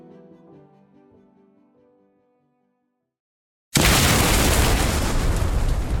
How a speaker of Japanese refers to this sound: 爆発音とともに吹き飛んだ瓦礫の山が火花を散らし空気を裂いた。